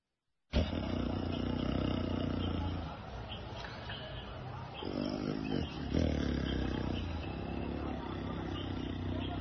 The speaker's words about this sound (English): Then we have the lion's roar.